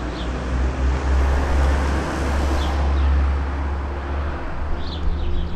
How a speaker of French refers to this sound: Piaillement contre un ronronnement des machines. Qui va gagner la médaille? Les oiseaux qui s'égosillent ou l'agriculteur qui décharge ses bottes de foin? Les oiseaux reprennent de plus belle.